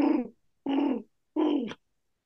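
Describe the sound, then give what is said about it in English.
Three soft, throaty pigeon coos in a slow, evenly spaced sequence, each a short rounded call with a gentle fall, with nothing else around them. “And just on a fun note, that is so true that New York City Manhattanites will put up with the pigeon poop just to hear.”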